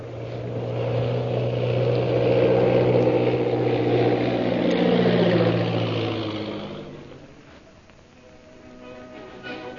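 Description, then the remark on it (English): A propeller airplane, flying to land at the Purple Triangle camp in the hills bordering the Gobi Desert, drones loudly with steady low harmonics, its pitch sliding as it passes by, then fades to a quieter rumble before swelling slightly again at the end. “And that night, after landing his plane at the Purple Triangle camp, situated in the hills bordering the Gobi Desert, Lin Fu takes his captive, Lin Chalmers, to Derek Bluger.”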